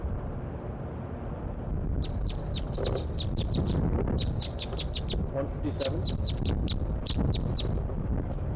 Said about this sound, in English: All the birds are chittering, all three.